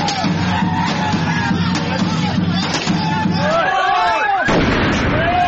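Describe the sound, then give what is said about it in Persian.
Sharp bangs and crackling bursts of homemade firecrackers and fireworks go off repeatedly in the streets and alleys among a busy outdoor crowd during Chaharshanbe Suri, the Iranian festival at sunset on the last Tuesday of the year, with whistling rockets and a constant roar of voices and commotion. “اما در دهه‌های اخیر هیجان این شادمانی با صدای گاه و بیگاه انفجار ترقه‌های دستساز و مواد محترقه در کوچه و خیابان‌ها گره خورده و کام بسیاری از خانواده‌های ایرانی را تلخ کرده.”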